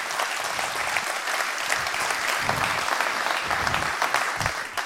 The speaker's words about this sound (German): Kann ich bitte einen kurzen Applaus fürs VOC haben, die so grandios arbeiten. Danke, danke, danke.